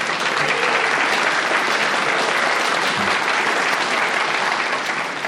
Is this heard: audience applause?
yes